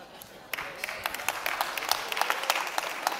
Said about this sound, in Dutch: Ja, er zijn 15 mensen die klappen, de rest denkt, wow.